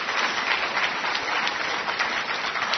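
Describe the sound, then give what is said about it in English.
An audience applauds everyone who does corrections (prison work), a dense, even wash of many hands clapping at once, sustained at a constant loud level without any voices over it. “So I want to just give a round of applause to everyone who does corrections.”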